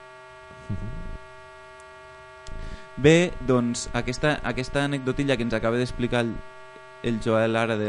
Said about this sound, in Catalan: Era el so del PC